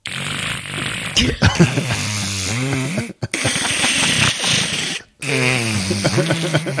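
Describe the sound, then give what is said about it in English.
A person imitates a cat snoring with repeated rough, buzzing vocal snorts and sliding low-pitched growls, broken by two brief pauses, fairly loud throughout. “My cat snores.”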